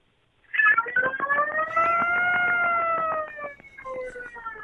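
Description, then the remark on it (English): Someone imitates a fire alarm siren with their voice, holding a loud, wavering wail with a rapid pulsing quality for about three seconds, then trailing off into a shorter, softer burst. “The fire department just showed up at the hotel. I'm not going to lie. That's a three-bell alarm right there.”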